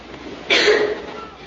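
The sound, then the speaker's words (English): A single short, harsh cough from a boy bursts out, fairly loud, over a low, steady background murmur during a morning school assembly in an assembly hall, then fades back into the hum. “Stop that infernal coughing! Every morning alike. Clear your throats on the way to school.”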